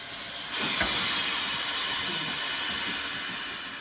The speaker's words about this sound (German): Es dampft, rattert und zischt in Braunschweig. 90 historische Eisenbahnfahrzeuge stehen im Lokschuppen der Verkehrsfreunde.